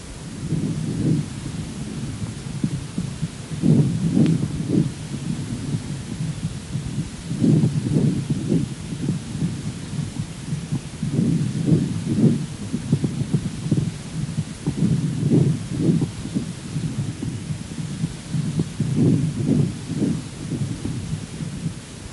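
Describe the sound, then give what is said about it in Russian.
Low, muffled saccadic breath sounds heard through a stethoscope, recorded from a patient with vegetative-vascular dystonia: each breath broken into short jerky pulses, repeating in about six cycles with brief pauses between, no voices. “Прослушайте саккадированное дыхание, зарегистрированное у пациента с вегетососудистой дистонией.”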